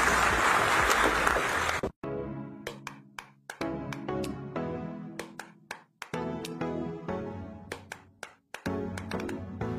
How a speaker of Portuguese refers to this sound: Parabéns a todos pelo excelente projeto que vocês estão tocando. Obrigada. Muito obrigada. Palmas para ela.